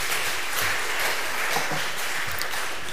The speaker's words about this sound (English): Give them a wee round of applause.